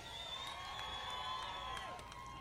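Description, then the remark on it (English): A large, growing crowd cheers and whoops steadily when a host asks them to before musical entertainment, with high-pitched shouts and whistles rising over a dense, continuous roar that carries on for the whole stretch without a break. “Let's hear it, this crowd is getting big. I wanna hear you.”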